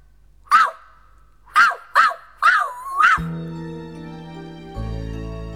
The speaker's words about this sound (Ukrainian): А песик вже тут, за кущиком. Гав! Ти повернувся, песику мій.